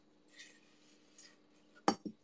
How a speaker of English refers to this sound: Can you guys hear that? This is the sound of the sand falling into the vase.